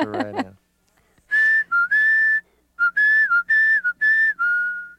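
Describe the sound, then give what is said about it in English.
A short tune that plays on their doorbell is whistled in two phrases of steady, clear notes with small pitch steps and brief gaps between them, preceded by a quick vocal sound at the very start. “Okay, so that's our song on the doorbell.”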